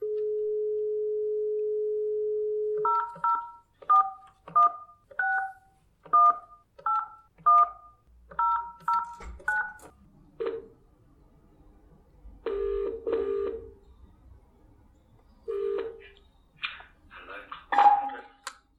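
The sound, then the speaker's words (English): A steady dial tone gives way to a quick run of about a dozen touch-tone keypad beeps as a phone call is placed to Canberra, Australia, then short bursts of ringback tone sound over faint background noise on the line. “So we'll phone him, I'll introduce him”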